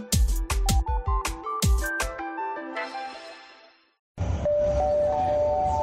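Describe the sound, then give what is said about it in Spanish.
Glass jars are dropped into a green recycling container, clinking together in a quick, loud series of bright, ringing knocks that fade into a lingering chime, then after a brief silence more glass clatters steadily. “Parada: frascos de vidrio. Destino: contenedor verde.”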